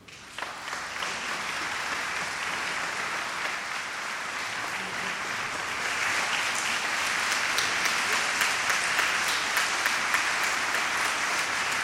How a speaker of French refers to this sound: Vous pouvez encore les applaudir.